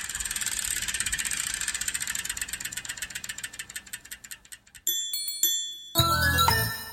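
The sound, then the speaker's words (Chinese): A single bicycle rolls along with a fast, ticking chain whir that gradually slows, then its bell rings out brightly twice near the end, clear. “一辆脚踏车。”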